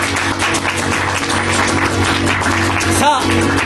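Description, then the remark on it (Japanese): A crowd claps loudly and steadily for a few seconds, a dense crackle of many hands, with a low hum of background music underneath. “大きな拍手を。”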